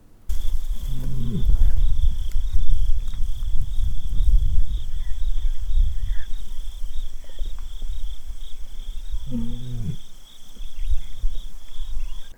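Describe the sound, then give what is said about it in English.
A lion gives a soft, low guttural contact call twice, the calls spaced well apart, over a steady chorus of crickets and a low rumbling outdoor background. “here is what a contact call sounds like.”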